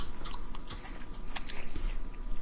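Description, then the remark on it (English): Chewing of crunchy beef jerky, with sharp irregular crunches and bites over a steady low background rumble, no talking. “I meant the ones in the bags that are, like, really crunchy.”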